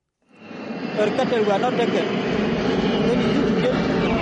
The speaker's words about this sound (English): The World Food Program cargo plane airdrops sacks of sorghum in Unity State's Mayendit County.